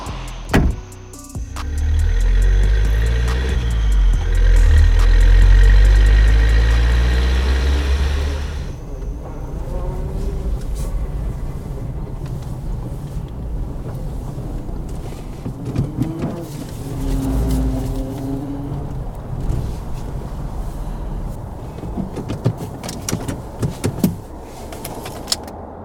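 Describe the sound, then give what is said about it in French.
A car being parked by the pavement, taking more than 24 seconds and ending more than 23.6 cm from the kerb: a loud, low engine rumble with shifting revs for several seconds, then a quieter stretch of mechanical whirring, creaks and scattered clicks, with no voices. “Ce que vous venez de faire, Johnson, vous avez mis plus de 24 secondes à vous garer et vous êtes éloigné de plus de 23,6 cm du trottoir.”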